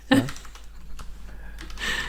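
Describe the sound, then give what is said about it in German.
A short burst of keyboard typing: a handful of quick clicks and taps in an irregular rhythm, with a faint hiss and no voices. “Ich wollte nur demonstrieren, wie toll meine Tastatur klingt.”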